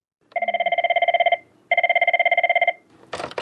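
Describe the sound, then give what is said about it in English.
A telephone rings twice in a Lifeline crisis support call centre in Sydney during the Christmas period, clear, rapid trilling bursts, each about a second long with a short pause between, loud, followed by a brief rustle or voice starting at the end. “It's the Christmas period in one of Sydney's crisis support call centres, and the phones are running hot.”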